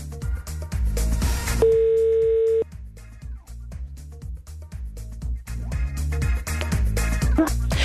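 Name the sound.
telephone ringback tone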